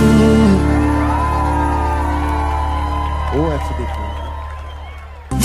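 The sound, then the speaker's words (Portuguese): A football crowd of Brazil supporters cheering during the World Cup in a loud, continuous roar of many voices with chanting tones, easing slightly over several seconds before a sudden burst right at the end, as heard on Rádio Dimensão FM. “A maior torcida do mundo se encontra na maior audiência.”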